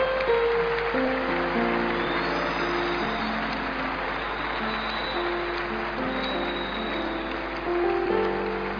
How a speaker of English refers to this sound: And I thought you are excited. You are clapping so much for Him. What a day, what a blessing in God's presence. Keep clapping for the Lord, Church.